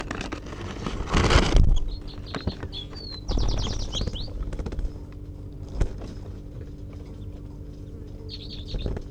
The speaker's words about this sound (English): She just gave a tight, a sharp little toot as she took off.